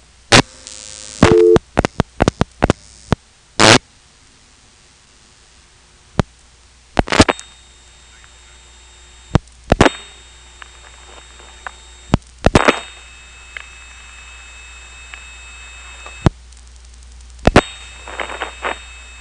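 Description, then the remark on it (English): A telephone call carried over old analog controlled-carrier trunk lines, a 3700 controlled-carrier link to the tandem followed by a 2600 controlled-carrier link after dialing 22, reaching the 297 office in Piney Woods, North Carolina: a burst of sharp clicks and pops, then steady electronic tones that switch pitch and cut in and out over a faint hissing line. “you can clearly hear the two carrier systems we've been talking about back to back”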